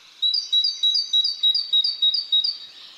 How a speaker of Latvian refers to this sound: Otra iespēja arī ir, kas neobligāti saistīta teritorijas aizsardzība, bet vienkārši, ka dziedot vienu dziesmu, putns fiziski sagurst, un tāpēc viņam ir labi mazliet pamainīt tos dziedamos muskuļus un padziedāt mazliet citu dziesmu.